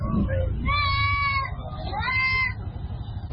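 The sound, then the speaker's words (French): Two drawn-out sheep bleats rise over the busy, rumbling Garbal livestock market in Bobo-Dioulasso, the second slightly shorter, with a constant murmur of crowd noise underneath. “Nous sommes à Garbal, le marché du bétail de Bobo-Dioulasso.”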